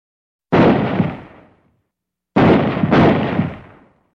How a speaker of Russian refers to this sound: Вдалеке глухо простучали три выстрела. Эта винтовка работает и мощная.